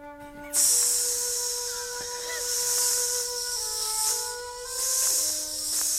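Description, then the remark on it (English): A voice imitates the hiss of asps under a bridge: a steady, bright, breathy hissing that starts abruptly after a short pause and runs continuously, swelling and easing a few times over a faint tonal hum. “Just a general ambience of hissing.”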